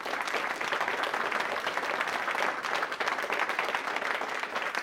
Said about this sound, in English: I could hear them shouting and cheering outside.